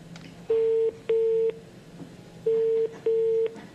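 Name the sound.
telephone call ringing out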